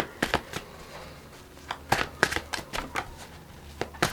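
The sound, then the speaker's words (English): Large cards being shuffled, a series of crisp, irregular riffling snaps and soft flutters over a few seconds, with no one speaking. “Okay, so now we are going to get you to shuffle them.”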